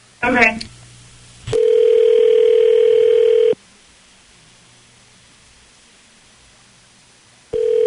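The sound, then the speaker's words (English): A phone call to a woman's boyfriend rings out: a brief burst of dialing, then a steady electronic ringback tone for about two seconds, a long pause, and the next ring starting. No one speaks. “we're going to call your boyfriend Trent right now to see what's going on, okay?”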